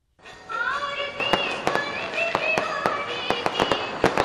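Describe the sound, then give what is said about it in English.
Fireworks crackle and bang during the Diwali festival in New Delhi, India, in rapid, irregular bursts, sharp pops layered over a continuous festive din with tonal whistles and music-like sounds, loud and busy throughout. “Music and fireworks kick off the Indian holiday of Diwali, a five-day celebration when Indians shower each other with gifts.”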